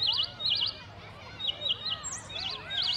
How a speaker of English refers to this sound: It's a beautiful day on the playground today. The sun is shining and the birds are flying and chirping.